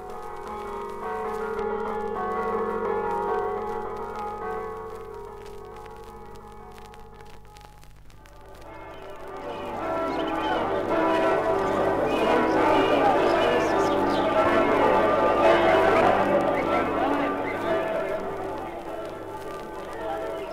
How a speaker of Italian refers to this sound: Della prima domenica dopo il Ferragosto a Sacile. Nel biancore antelucano, le voci delle campane di San Nicolò salutano il giorno festivo confuse al preludio canoro della tradizionale sagra dei Josei.